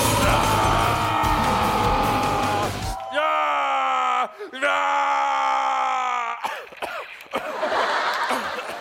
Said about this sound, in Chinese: 现在地狱男爵好像要说些什么，不是说是吼，丧心病狂的在乱吼。